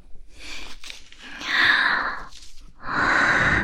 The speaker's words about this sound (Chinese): 怎么了？怎么这么喘气啊， 弟弟？